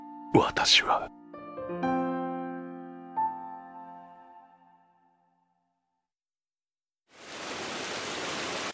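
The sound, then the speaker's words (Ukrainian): After a brief burst of sound and a few sustained, fading musical notes, a short silence gives way to a steady, fairly loud hiss of falling rain. “у мене же цей дощ.”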